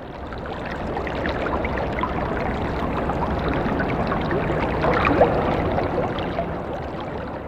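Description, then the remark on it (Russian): A stream of water rushes and splashes steadily over rocks and obstacles, a dense continuous churning with bubbling texture, fairly loud throughout with no voices. “Чем яростнее борется вода, пробиваясь через препятствия, тем стремительнее ее бег, тем больше родится пузырьков и тем короче их существование.”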